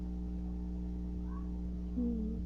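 A single short kitten meow near the end, soft, rising briefly over a steady low background hum, with a fainter chirp-like squeak just before it.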